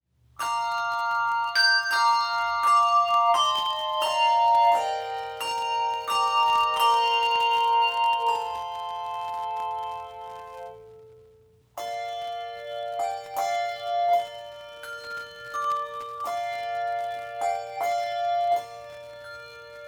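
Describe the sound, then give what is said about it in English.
A handbell choir rings the carol Silent Night in its original key on two octaves of bells, clear sustained tones layering into a gentle melody with shimmering overtones, played at a steady unhurried pace with no voices. “the must-have carol of the season, which is, of course, Silent Night. Set in the original key for 2 octaves of bells or chimes”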